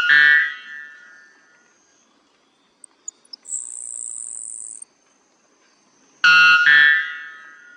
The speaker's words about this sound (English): The white bellbird has the loudest call in the world at 125 decibels.